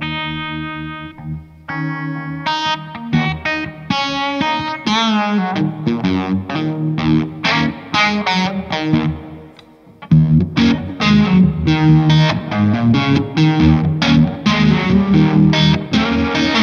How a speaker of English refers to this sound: And so they go to the amps, and then the effects loop, we have the Supro Tremolo, which is yeah, pretty good. Like it's pretty, it gets pretty swampy or something, I guess.